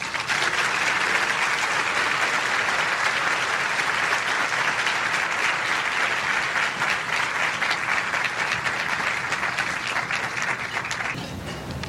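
A crowd claps steadily in sustained applause, a dense, even rush of many hands that holds at a constant loudness for about eleven seconds before tapering off.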